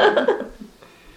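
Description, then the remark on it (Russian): A person clears their throat with a few quick, small coughs, the short bursts bunched together at the start before fading into quiet. “Я тоже могу покашливать.”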